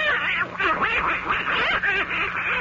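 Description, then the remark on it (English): A voice imitates a duck, letting out a steady stream of nasal, buzzy quacking chatter, loud, with no pauses. “I wouldn't believe a duck could have so much fun.”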